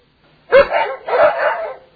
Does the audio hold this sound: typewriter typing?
no